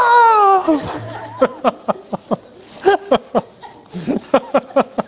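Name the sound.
cat meowing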